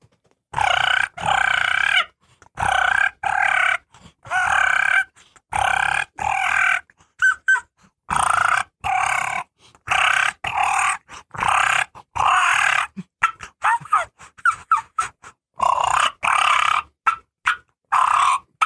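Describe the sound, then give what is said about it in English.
A voice imitates hen turkey fighting purrs, as hens make after flying off the roost to establish pecking order: a rapid series of short, raspy, rolling purrs and clucks, fairly loud, coming in quick bursts with brief pauses between them and no talking. “So she flies off the roost, they hit the ground there, and they'll start doing fighting purrs.”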